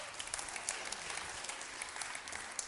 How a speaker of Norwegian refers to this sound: Gi dem en klapp, er mamma og pappa.